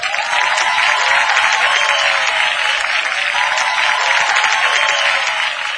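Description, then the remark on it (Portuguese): Sustained audience applause at a party as a police captain goes up, a dense, steady wash of many hands clapping at an even loudness throughout, with no voices standing out. “Ah, que merecimento, que surpresa, quem subiu cheio de aplauso veio”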